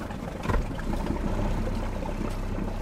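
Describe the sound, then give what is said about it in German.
A motorboat engine runs steadily with a low, continuous rumble and churning water noise, a brief louder surge near the start, no voices. The boat is heading from Amorgos, Greece, to the small islands of Kinaros and Levitha, about an hour away. “steigen in ein Boot.”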